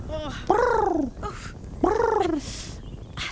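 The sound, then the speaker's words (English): A person imitates a pigeon's cooing with two throaty, warbling coos, each lasting about half a second and separated by a short pause. The sounds are fairly loud. “…, can you make a pigeon cooing noise?”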